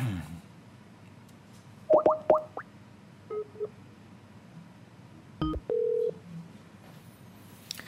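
A caller's phone call being connected: quick bursts of touch-tone dialing beeps, a few softer tones, then a click and a short steady electronic tone, all over faint line hiss with no talking.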